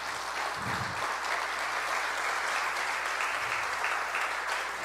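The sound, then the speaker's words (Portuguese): An audience at a church service claps steadily for about five seconds as a round of applause for the Lord Jesus, a dense, even wash of many hands with no pauses and no one speaking over it. “Você pode dar uma salva de palmas ao Senhor Jesus?”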